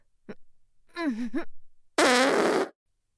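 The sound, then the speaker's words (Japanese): A short faint puff, then a wavering squeaky fart, followed by a long, loud, raspy blast, made with the bottom turned toward someone's face. The sounds stand alone, with no talking. “まずはおならから始めるわよ。”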